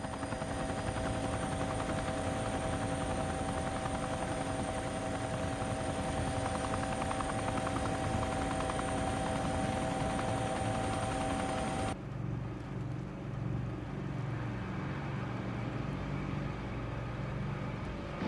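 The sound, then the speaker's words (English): A helicopter flies across the sparkling ocean, its loud steady rotor drone and engine whine filling the whole stretch before the tone abruptly shifts lower and rougher near the end. No voices. “The chopper flies across the sparkling ocean.”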